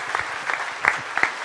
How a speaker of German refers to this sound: Das ist dein Applaus,